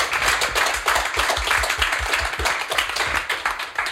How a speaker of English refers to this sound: Round of applause.